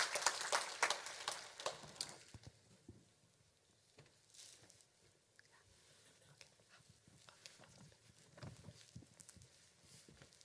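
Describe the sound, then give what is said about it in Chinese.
An audience bursts into loud, dense clapping for a couple of seconds to welcome two women about to share their testimonies, then the applause thins out into scattered, softer claps that continue sporadically to the end, with no one speaking. “我们热烈掌声欢迎他们，也给他们一点鼓励。”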